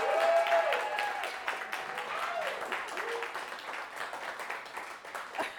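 A crowd applauds steadily, a dense patter of many hands clapping for several seconds without pause, with a few rising whoops and cheers cutting through early on; the applause welcomes a man back to the U.S.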